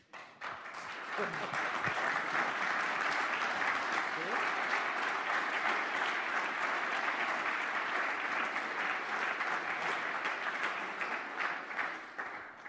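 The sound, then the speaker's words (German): Sustained applause from a packed hall at the Big Brother Awards, with people standing along the side walls, a dense, steady wash of many hands clapping that swells quickly and holds loud for over ten seconds before starting to thin at the end. “Der Applaus ist natürlich schön.”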